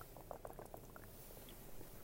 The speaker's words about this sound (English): hang on, let me take a sip of water.